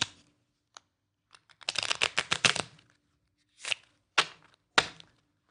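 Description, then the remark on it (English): A complete deck of 52 playing cards being shuffled: a quick burst of rapid riffling flutters, followed by three short, sharp papery swishes as the cards are squared, with no voices. “You have a complete shuffled deck of 52 cards.”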